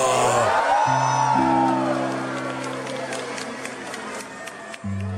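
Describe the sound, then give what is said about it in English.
At a 2019 Christmas tree lighting, as the switch is flipped and all the lights of the building and the tree come on, a crowd lets out a loud collective whoa that swells into cheering and scattered clapping, with low sustained musical tones humming underneath. “He flips the switch, everything, all the lights of the building and the tree, and the crowd is like, whoa!”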